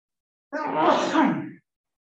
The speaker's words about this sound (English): That means I have to sneeze twice because I can't really get a good one in.